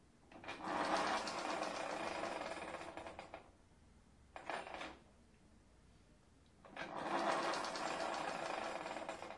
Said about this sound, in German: Das macht ja Geräusche. Mit so einem Auto will ich auch nicht mitfahren. Was solche Geräusche macht.